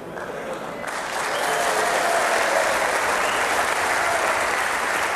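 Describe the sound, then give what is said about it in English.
A crowd breaks into applause, a dense steady patter of many hands clapping that swells after the first second and holds loud and sustained throughout. “Hear them all applauding.”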